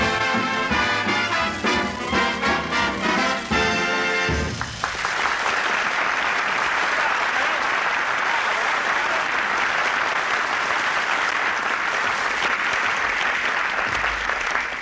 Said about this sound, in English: He even puts applause on the record.